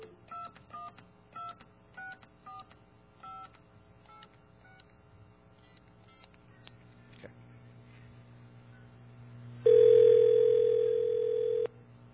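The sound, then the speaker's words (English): A quick run of touch-tone keypad beeps dialing a number, followed after a pause by a loud, steady telephone tone lasting about two seconds, over a faint low hum. “Don't have a dial tone.”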